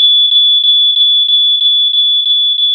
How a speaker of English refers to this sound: Do you hear that sound? That distinctive noise is the sound of a smoke detector that has been activated. It has an unusual high-pitched tone that is different from anything else, so that it will alert you and your family